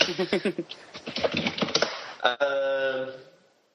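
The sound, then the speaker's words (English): Quick, irregular computer keyboard clicks rattle away for about two seconds as someone searches on Google, then give way to a short, steady tone that fades out. “typing sounds terrible on a podcast.”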